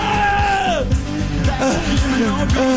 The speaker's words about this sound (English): No one screams while they wash their hands.